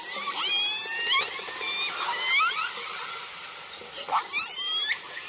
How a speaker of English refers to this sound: And I can tell you that about 12 of us were on board and all of us were literally in tears listening in on the communication. I would call it a conversation between these killer whales.